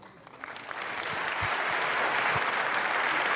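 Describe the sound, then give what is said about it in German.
Audience applause welcoming three artists starts as scattered claps and quickly swells into a steady, dense wash of clapping that stays loud to the end, with no voices over it. “Bitte begrüßt mit einem sehr, sehr herzlichen Applaus unsere drei Künstler von Übermorgen.”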